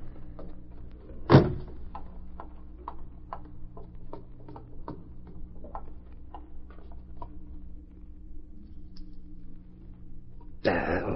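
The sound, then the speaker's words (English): A man fumbles at the lock of his own front door, its keyhole covered over, with one sharp bump followed by a run of small, irregular metallic clicks and scrapes over a low steady hum, ending in a louder rattle. “I'm so nervous I can't find the lock to my own.”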